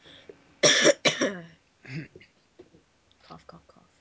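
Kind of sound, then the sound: human body sound, coughing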